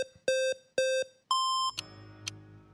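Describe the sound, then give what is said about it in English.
Three loud electronic timer beeps in quick succession, the last one higher-pitched, marking the start of an elevator pitch recording, followed by a low background rumble with a few faint clicks. “We have some beeps up front, so good luck to you.”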